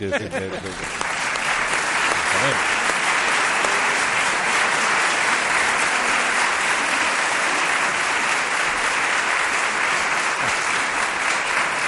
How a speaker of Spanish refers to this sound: Que no flojeen. ¿Eh? No, les has arrancado un aplauso.